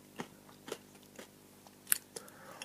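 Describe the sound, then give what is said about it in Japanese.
Crisp crunching of someone chewing crunchy sweet potato chips made from sliced Anno sweet potatoes from Tanegashima and vegetable oil, a series of sharp irregular bites and crackles spaced across a few seconds, with no talking. “うん、聞こえますかね、バリバリしてるの。”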